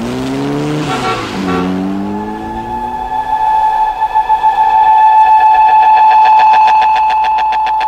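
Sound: train pulling away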